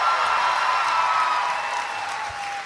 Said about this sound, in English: You know what? Teachers don't get enough applause. Yeah. Yeah. Hey. Let's clap for teachers. Yeah.